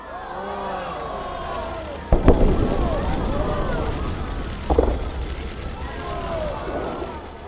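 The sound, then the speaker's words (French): Fireworks at the closing ceremony of the Winter Olympics in Beijing on 20 February 2022 burst with two sharp booms, the first loud and followed by rumbling crackle, the second a few seconds later, while a crowd of voices murmurs and calls out throughout. “Ces feux d'artifice, ils datent très exactement du 20 février 2022.”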